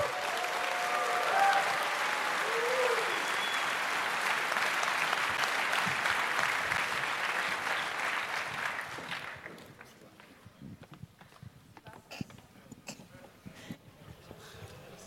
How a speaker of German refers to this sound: Applaus, Applaus, Applaus, Applaus.